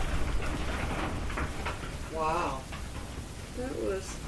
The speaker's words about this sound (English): Thunder. Some nice rain. Did it sound like thunder to anybody else? No, it sounded like something landed on the building.